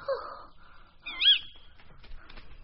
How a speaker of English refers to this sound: An owl got it.